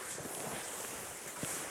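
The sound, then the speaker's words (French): A steady, soft rush of wind blows across an open, quiet snowy Arctic landscape near Kvikkjokk in Jokkmokk, north of the Arctic Circle at 67 degrees north, a constant airy hiss with a couple of faint crunching taps underneath. “Le vent.”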